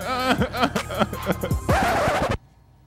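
Car brakes screech loudly, with a series of wavering squeals building into one sustained high-pitched screech that cuts off abruptly, leaving near silence.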